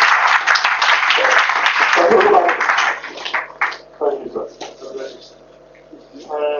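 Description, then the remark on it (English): A crowd claps loudly as praise to Jesus, in a dense, steady burst of applause for about three seconds, then it thins out and fades as voices and a sustained tone take over. “Give Jesus a clap of praise.”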